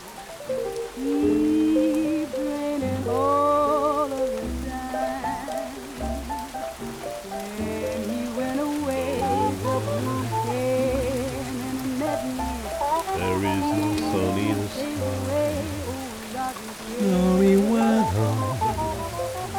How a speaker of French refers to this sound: Pas d'éclair au-dessus des toits, rien que le rythme jazzy des gouttes sur les vitres et sur les tuiles.